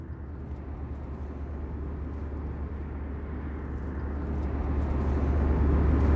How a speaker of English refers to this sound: Okay, we're on an airplane flying from Toronto to New York.